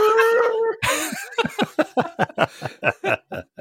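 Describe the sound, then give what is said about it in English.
A person mimics an elephant's trumpet with a loud, sustained, nasal blare lasting under a second, followed at once by a burst of rhythmic, pulsing laughter. “And then 3 seconds later, they just heard an elephant go...”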